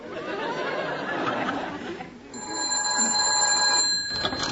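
Murmuring voices and light laughter fill the first half, then a telephone bell rings in a steady, bright, high-pitched trill for about two seconds before cutting off.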